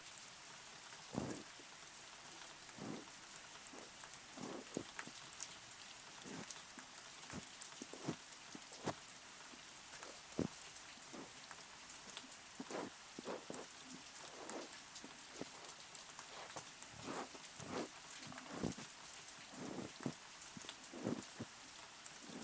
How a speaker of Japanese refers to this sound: 雨の音って私結構好きなんです。落ち着くし、本を読んだり編み物をしたりするときなんかにはいい BGM になるなって。